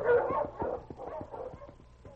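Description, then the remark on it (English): A team of husky sled dogs, led by the dog King, barks and yips in a rapid, overlapping chorus, fairly loud, as they are urged on to pull the sled through snow, with the excited calls tapering off toward the end. “All right, King. Up front, boy. On, King! On, Huskies!”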